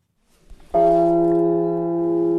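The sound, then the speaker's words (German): A large cathedral bell with the strike tone F1, 1.20 metres tall and weighing about one tonne, is struck once after some faint low rumbling, then rings out loudly with a rich, sustained hum of deep steady tones and bright overtones that barely fade. “Diese Glocke erzeugt den Nominal, also den Schlagton F1.”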